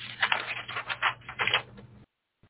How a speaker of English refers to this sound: Let me see. Let me pull this paper off of here. Okay.